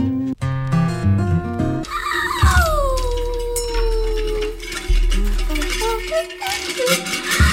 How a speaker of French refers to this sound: Et il est 15h03 et on a un mélange qui s'étend et s'étend avec des hurlements en fond sonore, mais c'est épouvantable.